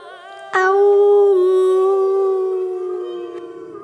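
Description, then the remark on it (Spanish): Women howl like wolves in a long, sustained, steady tone that starts abruptly and slowly fades over a few seconds, loud, with no talking. “Aúllen, mujeres, aullemos conectadas a la voz de nuestras almas. Aullémosle y cantémosle a la luna llena para así juntas poder recordar, rememorar nuestra esencia y nuestro poder.”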